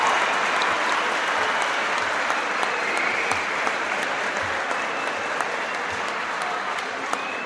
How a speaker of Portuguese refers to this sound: E aproveitar também, pedir para que todos os professores presentes se levantem, né, para que a gente, vocês possam receber uma salva de palmas pelo Dia dos Professores que nós comemoramos recentemente.